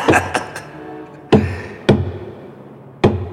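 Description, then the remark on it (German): Knocking on a cheap wooden coffin holding a corpse: three quick hollow raps, then three slower, evenly spaced knocks, each a sharp thud with a low, resonant tail. No voices. “An den Sarg klopfen.”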